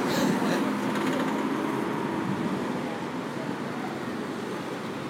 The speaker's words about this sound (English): All right, and we're off. But this is the bus going.